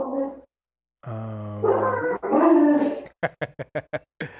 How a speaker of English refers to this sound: My dogs apparently have decided to get involved in the interview on the podcast.